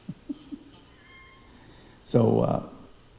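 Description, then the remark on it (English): A cat lets out one loud, drawn-out meow, preceded by a few soft low thumps and a faint steady tone amid otherwise quiet surroundings. “Nobody fed the cat.”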